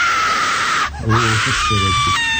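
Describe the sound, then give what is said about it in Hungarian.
A loud, sustained high-pitched scream rings out for a couple of seconds, briefly breaking off midway while lower voiced sounds surface beneath it. “Addig hallgassatok meg egy sikolyt.”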